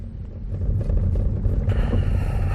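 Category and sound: vehicle, car engine running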